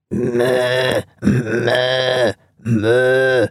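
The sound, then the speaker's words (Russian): A person uses their voice to imitate a goat or ram bleating three times in a row, each drawn-out, wavering call lasting about a second, loud, with short pauses between them. “Потом, например, вот коза или баран тоже вот примерно.”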